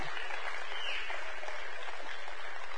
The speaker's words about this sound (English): Youth and you kids, you are dismissed. Big round of applause. Y'all clap for the kids and the youth.